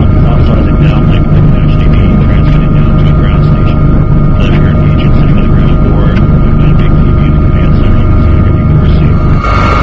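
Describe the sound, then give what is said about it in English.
A Customs and Border Protection helicopter with a camera mounted underneath drones loudly and steadily overhead while providing aerial surveillance of crowds gathered in Indianapolis. Its engine whine and rotor noise fill the whole stretch without a break, with muffled voices faintly underneath. “Pilot Dan Housting, also with Customs and Border Protection, provided aerial surveillance of the crowds gathered in Indianapolis. Using a camera mounted under the helicopter, agents are able to pinpoint possible problems and track potential threats.”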